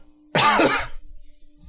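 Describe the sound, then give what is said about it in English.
One sharp, loud cough, a harsh throaty burst lasting about half a second, then faint low rumbling as it trails off into near quiet. “Cough, cough, cough, cough, cough.”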